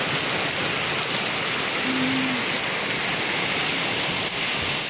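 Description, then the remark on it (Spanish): Steady, dense rain pours down in a continuous hiss, loud throughout, with a brief low hum rising faintly beneath the downpour for a moment. Heavy rain falling in Crucero, in the commune of Río Bueno, Ranco province. “Ahora llueve en Crucero, en la comuna de Río Bueno. Y con balde.”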